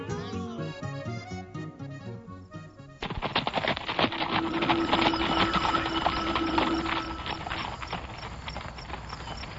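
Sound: horse galloping hoofbeats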